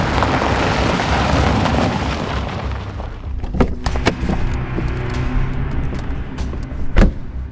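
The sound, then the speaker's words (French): A car's engine and road rumble fill the first few seconds, then it settles and a few sharp thumps like doors opening and slamming follow, with one heavier clunk near the end, as three men get out of the car at the foot of the stairs to Terminal 2 at Orly airport on a Sunday afternoon. “Ils sortent de la voiture au pied des escaliers qui mènent à l'atterrage du terminal 2.”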